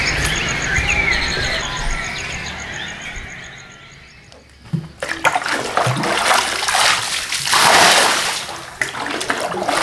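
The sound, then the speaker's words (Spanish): Water splashes loudly and irregularly at a spring-fed bathing pool in the centre of Santa María Jicaltepec, the community's main spring, where young women and ladies gather to bathe and wash, after a few seconds of steady outdoor ambience with a faint high chirping. “Es el principal ojo de agua de la comunidad. Ahí se juntan las jóvenes y señoras para bañarse y lavar.”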